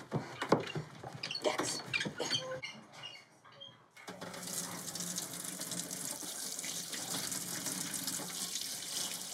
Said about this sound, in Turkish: Musluktan akan suyla yıkadı burnunu.